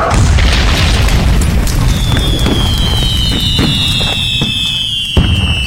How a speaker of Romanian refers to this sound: Ei, numai ce am ieșit de pe pod, podul o flacără, arde tot și explodează.